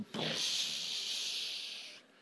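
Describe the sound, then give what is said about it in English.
A crowd of voices imitates a toilet flushing as a prophetic act, pretending to push the button of an imaginary toilet: a steady, loud, breathy hiss that swells quickly, holds for about two seconds, then cuts off. “Okay, just right now, just drop all that in the toilet and now push the button and make a flushing sound.”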